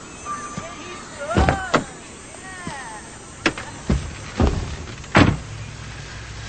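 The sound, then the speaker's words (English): Someone gets into the passenger seat of a car: a series of thumps and clunks from the door and seat, ending in a solid door slam, with faint creaks and squeaks in between. “Carrying a briefcase, Thomas walks to Davis's car, looks inside, then gets in the passenger seat”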